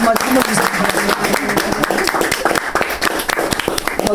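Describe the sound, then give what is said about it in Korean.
An audience breaks into steady applause of thanks from the men to their wives, a dense, continuous patter of many hands clapping at once, fairly loud and sustained for several seconds, with a murmur of voices mixed underneath. “우리 남성분들 정말 부인들한테 감사하다고 우리 감사의 박수 고맙습니다.”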